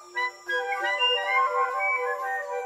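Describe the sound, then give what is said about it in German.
A flutist wren sings clear, flute-like whistled notes: a short opening note, then a sustained run of pure tones that glide gently in pitch, steady and fairly loud with no voices. “Ein sehr netter Vogel, der Flageolett-Zaunkönig.”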